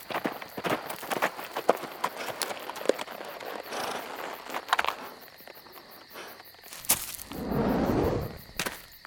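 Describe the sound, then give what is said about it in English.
Hooves of a horse ridden by a man approaching clip-clop in a steady, uneven rhythm of sharp knocks, growing busier, with a faint high insect drone behind and a brief low rumble near the end. “stood beside Bernardo just as the man on horse came into view.”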